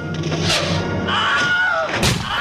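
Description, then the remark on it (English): A short, loud male scream with a strained, descending wail, the classic Wilhelm scream stock sound effect first used in the 1950s, heard once over a noisy, thumping background. “So the Wilhelm scream is a stock sound effect that was first used in the 1950s, but has now appeared in, from July 2018, the count was 389 films.”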